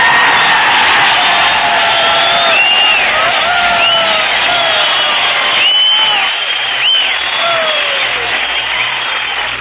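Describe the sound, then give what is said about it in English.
A large audience of servicemen at Scott Field applauds loudly and steadily for singer Nora Martin while several sharp, rising whistles cut through the clapping, with scattered whoops and cheers throughout. “Wow! What whistling! What applause!”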